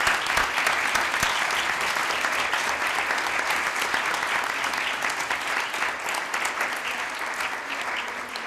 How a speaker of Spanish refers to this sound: Y desde aquí yo creo que se merecen un muy fuerte aplauso estos dos equipos.